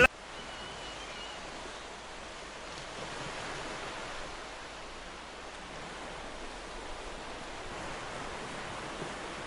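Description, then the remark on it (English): A steady, continuous wash of ocean surf fills the background, a broad hiss with gentle swells and no distinct breaks, moderately quiet and with no one speaking. “But in the meantime, let's listen to some ocean music in the background.”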